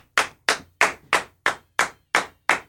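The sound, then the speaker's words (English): A person claps eight times in a steady, even rhythm, each clap a sharp, bright smack that fades quickly. No voices, just the claps. “Clapping jerk. Call me a clapping jerk.”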